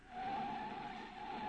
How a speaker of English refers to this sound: All right, now I'll put on the brakes and ease the thing to a stop. There.